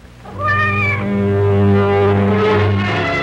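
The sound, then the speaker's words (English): A single long, drawn-out cat meow, loud, held for about three seconds with a wavering, yowling tone and no talking. “And like they say in the old funny story, that goes for your cat, too.”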